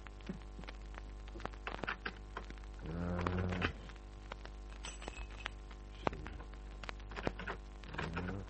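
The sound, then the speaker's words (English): A harsh electric buzz from a gold-plated door buzzer sounds in a few separate presses, one held longer than the others, with scattered clicks and light knocks in between. No one speaks. “After a couple of minutes of pressing the gold-plated buzzer, I took out my skeleton keys.”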